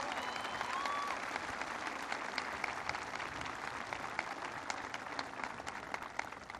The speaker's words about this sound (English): Holly Petraeus is in the house. I wanted you guys to give her a big round of applause.